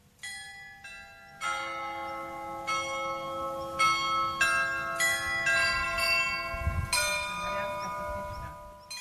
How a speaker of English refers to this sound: The song, entitled A Baroque Hymn, will be played on the 27-bell carillon for the first time on Wednesday evening at 6 o'clock.